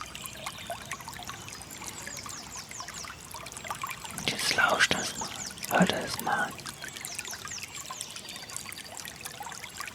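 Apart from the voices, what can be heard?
small brook babbling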